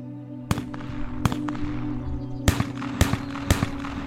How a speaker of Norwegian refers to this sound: Kanskje hørtes disse skuddene litt sånn ut.